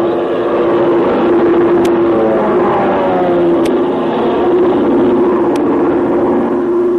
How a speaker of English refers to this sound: You can't make out what kind of a plane it's it is. It's an army plane.